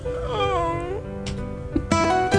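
A man lets out high, strained squeaking noises, a long wavering whine that bends up and down in pitch, followed by a few shorter squeaks after a brief pause.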